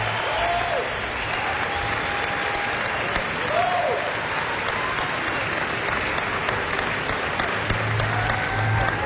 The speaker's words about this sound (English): But as you've already heard, he can really play. Have a nice round of applause